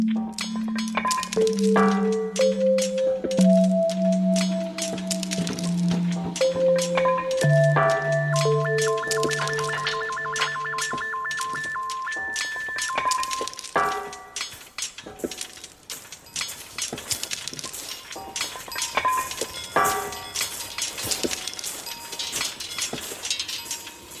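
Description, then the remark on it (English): Metal wind chimes made of triangles and hoops, moved by the wind, ring out in overlapping sustained tones at several pitches, then break into a busier scatter of light, bright clinks and tings as they knock together. “we have these kind of triangles and hoops that when the wind blows make this kind of nice”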